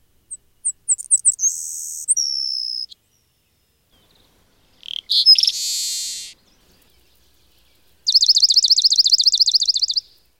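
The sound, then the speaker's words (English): Three distinct songs of North American sparrows in sequence: savanna, seaside and swamp sparrows. First come high thin chips into a buzzy trill, then a short buzzy phrase, then a fast, even, musical trill, all clear with no talking. “Those were songs of the savanna sparrow, seaside sparrow, and swamp sparrow.”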